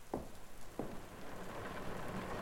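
rain falling outside

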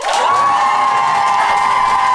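audience applauding and cheering

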